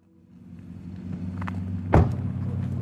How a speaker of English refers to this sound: It's about 9:15 at night, and Kyle is driving away from his apartment in his Dodge Ram.